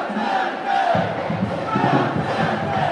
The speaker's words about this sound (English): John Edwards, who won the primary here in 2004, was surrounded by a large crowd of chanting supporters.